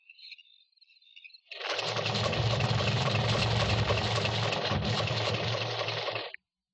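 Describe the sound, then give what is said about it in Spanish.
A truck or car passes on the road late at night, its engine rumbling steadily with a loud, broad roar for about five seconds, starting and cutting off abruptly, after a faint high whistling tone at the start. “Es algún camión o un carro que pasa por la carretera.”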